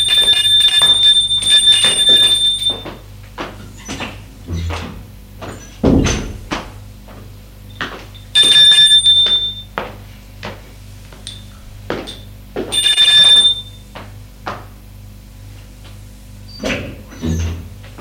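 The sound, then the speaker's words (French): A doorbell rings at the door of a home in the evening in three bright, buzzing bursts spaced a few seconds apart, loud, with scattered sharp clicks and thumps like a door or latch in between. “On a sonné à la porte.”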